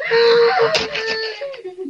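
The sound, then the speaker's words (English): A loud, drawn-out scream with a wailing, moaning quality, holding a strained high pitch for about two seconds before sliding downward and trailing off. “Did you hear it?”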